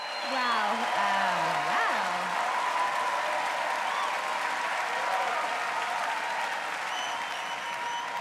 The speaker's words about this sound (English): The crowd cheers and stands up. The hall has three floors.